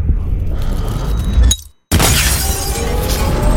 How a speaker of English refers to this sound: No. I raised my aim to the lamp. A gunshot. A flash.